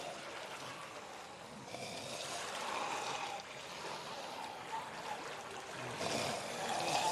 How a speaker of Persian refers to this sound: مدت زیادیه که آب در از اون سوراخ پایین میریزه. بعد جوری اینجا رو به لجن کشیده.